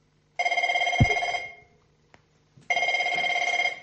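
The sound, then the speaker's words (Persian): A telephone rings in two loud bursts of rapid bell trilling, separated by a short pause with a faint click in between. “خیر، ایستو من از اینجا زنگ میزنم”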